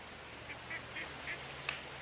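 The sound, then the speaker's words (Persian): Several short quacks from ducks on a pond full of ducks ring out in a steady, uneven series over a low outdoor hum, with one sharper call near the end. No one speaks. “این طرف دست چپ یه برکه آب پر از مرغابی.”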